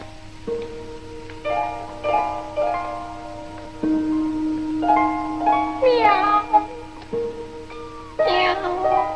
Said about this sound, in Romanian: Miau. Miau.